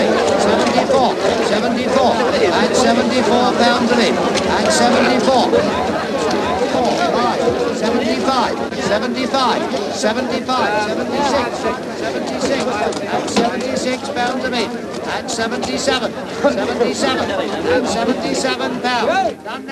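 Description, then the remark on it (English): A busy crowd at Southall Market chatters loudly and steadily throughout, many voices overlapping, while a stable hand runs a horse through the throng, its hooves clattering among the babble. “A stable hand runs a horse through a crowd at the market.”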